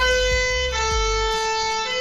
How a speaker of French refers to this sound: Ça fait toujours du bien un bon petit coup de sirène de pompier qui nous annonce d'ailleurs la venue de monsieur Laurent Gérard et de toute son équipe dans quelques instants sur RTL.